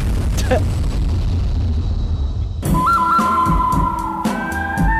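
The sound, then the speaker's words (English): A loud, low rumbling explosion sound effect fills the first half, then a sharp blast brings a whistling tone and a rapid series of crackling bursts, all intense. “I'm particularly a fan of the explosion part.”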